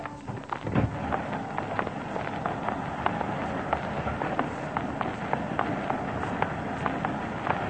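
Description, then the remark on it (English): A push lawnmower being pushed with its blades spinning, a quick, uneven series of sharp clicking ticks over a steady rumbling noise, with no voices. “It's easier pushing without the blade spinning that way. Yeah, I know. But I like to hear that click, click, click, click, click, click”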